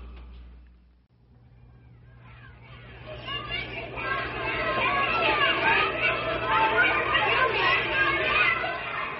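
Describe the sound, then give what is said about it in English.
A crowd of children coming home from school shouting and laughing, many high-pitched voices overlapping in a busy, continuous din that swells up after a quiet opening and stays loud to the end. “The shouting and laughter of children coming home from school is most enjoyable.”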